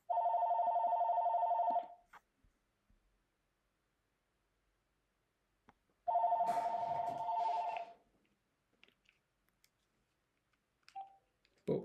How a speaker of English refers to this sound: Just a second. Phone call.